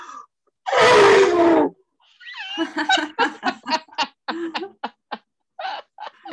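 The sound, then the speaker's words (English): A person lets out a loud, blaring one-second vocal trumpet in imitation of an elephant, followed by a run of choppy laughter from other voices. “a little scared of the elephant, but I feel like he can work through it”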